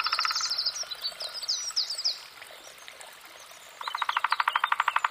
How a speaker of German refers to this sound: Der Morgen im Bannwald ist noch kühl. Das Murmeln eines Bächleins begleitet die erwachende Vogelwelt.